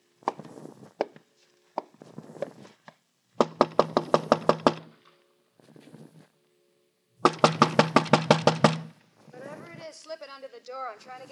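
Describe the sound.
Two bursts of loud, rapid knocking on a door by the police, each a quick run of about eight or nine raps, with voices speaking before, between and after them.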